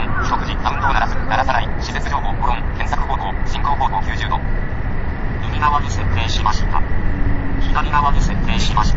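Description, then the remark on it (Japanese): A bus engine rumbles steadily, a low heavy drone as the bus stops on a street near Chiba Medical Center, with faint voices and chirpy tones over the traffic noise. “あ、バス止まった。”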